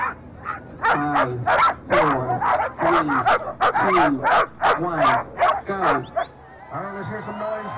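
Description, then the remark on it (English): A team of Iditarod sled dogs barks and yips excitedly in rapid, overlapping bursts, loud, easing into higher whining yelps toward the end, at the start of the Iditarod race just after 11 a.m., as Mackey's team sets off toward Nome. “He's a team dog that has never done this before.”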